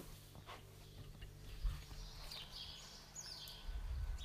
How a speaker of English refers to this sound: the spuggies are chirping.